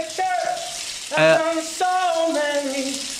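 A steady hiss of running shower water fills the background while a man sings a melodic line over it, his voice clear and fairly loud against the spray.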